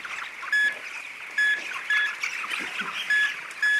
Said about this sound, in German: 130 Kilometer westlich, im Hühnerstall von Stefan Tepka. 36.000 Küken wuseln durch die 90 Meter lange Halle. Flauschige Tiere, gerade mal 2,5 Wochen alt. Noch haben sie reichlich Platz.